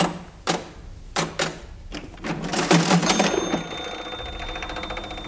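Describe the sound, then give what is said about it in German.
An old mechanical cash register clatters through several sharp key presses and a rattling drawer mechanism, ending in a bright ring that lingers; fairly loud, no voices. “Ich kenne tatsächlich noch einen kleinen, gut gehenden Süßigkeitenladen, dessen junge Inhaber eine alte Registrierkasse benutzen.”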